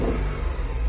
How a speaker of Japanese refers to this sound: いい感じですね、 はい、660cc のくせに、はい、ウォンとかなりますね、 うん、力強い音が いい音でしょ、